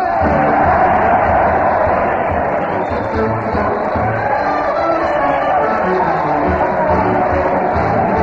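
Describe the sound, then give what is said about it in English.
The studio audience of the Town Hall Tonight radio show cheers Fred Allen, a dense, loud roar of many voices with whoops rising out of it, steady for the whole stretch without pause. “Listen to that crowd cheer Fred Allen as he leads his weekly parade to the old Town Hall.”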